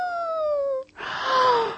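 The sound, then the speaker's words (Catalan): A person imitates a wolf howl with two drawn-out "ooo" calls that slide downward in pitch. The first is clear and tonal, the second breathier and louder, after a brief pause. “Llavors es va sentir una veu que feia: au!”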